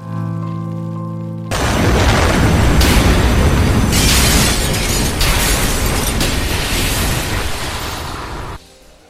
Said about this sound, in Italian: Lo scoppio, avvenuto a quasi metà della galleria, provocò un violento spostamento d'aria, frantumando tutti i fenestrini e le porte.